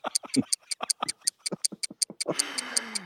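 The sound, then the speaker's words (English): A clock ticks quickly and steadily, with crisp, evenly spaced clicks. Toward the end, a rushing hiss swells up beneath the ticking. “Oh, thank God I can hear some ticking.”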